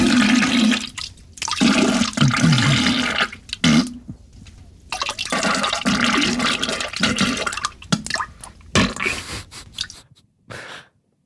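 household object, toilet flushing

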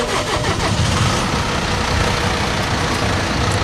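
vehicle, tractor engine running

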